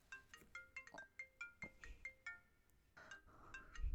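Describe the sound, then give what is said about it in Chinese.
A mobile phone rings with an incoming call from a husband, a bright electronic melody of quick, repeating chime-like notes, clear, with no one speaking over it. “把手机给我，我怎么能接我老公的电话呢？”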